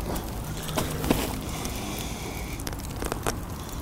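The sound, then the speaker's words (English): A giant bonfire, with the crushed pieces of a sawed-up, hammer-smashed computer dropped into it, crackles steadily: a dense rushing hiss broken by scattered sharp pops and snaps, at moderate loudness with no voices. “Smashed the pieces with a hammer and dropped the crushed pieces into a giant bonfire.”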